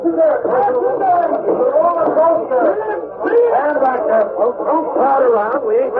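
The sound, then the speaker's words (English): A crowd of onlookers chatters continuously after a roller coaster car jumped its rails, many overlapping voices forming a steady babble with no single voice standing out. “Stand back there, folks. Don't crowd around.”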